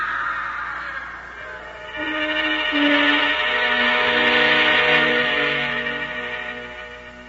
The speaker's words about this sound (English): Dad! Dad! Dad, she's screaming again. Right after you left, she started to scream. You've got to come back.